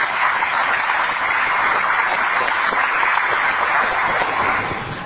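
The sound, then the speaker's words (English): A crowd in Sudbury applauds steadily as the fire chief comes to the microphone, dense clapping mixed with cheers that holds at a fairly loud, even level for several seconds before easing off slightly at the end. “you are permitted to cheer when he comes to the microphone because this will be the last time.”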